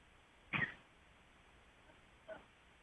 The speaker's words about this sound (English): Oh, she's coughing.